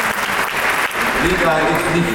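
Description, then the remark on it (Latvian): A large crowd of choir singers applauds in a sustained, dense wash of clapping at the World Choir Games closing ceremony in a packed arena in Riga, Latvia, loud and steady throughout, with a few voices faintly audible beneath the ovation. “izpelnoties pamatīgas ovācijas koristu pārpildītajā arēnā Rīga.”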